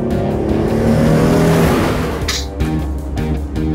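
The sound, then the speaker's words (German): The Paw Patroller revs loudly and pulls away, driven off with Mayor Besserwisser and six kittens aboard, its low rumble rising in pitch, with a brief hissing screech partway through as it drives off. No one speaks. “Er und die 6 Kätzchen verschwanden im Paw Patroller. Und dann fuhren sie los.”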